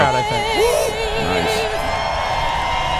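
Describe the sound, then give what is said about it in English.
A large crowd at a NASCAR event cheers during the national anthem in a steady, dense roar for the full three seconds, with shrill, wavering whistles riding high above it and scattered voices yelling and whooping. “Who did the whistle? Was that him? Crowd.”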